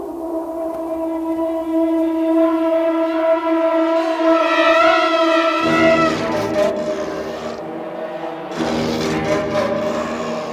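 A film's orchestral score evoking the baby alien's attack on a crew member's face: low, trembling serpent and didgeridoo drones with flutter-tongue and muffled growls hold steady pitches with wavering overtones, then a dense, loud orchestral swell thickens the texture halfway through before easing slightly near the end.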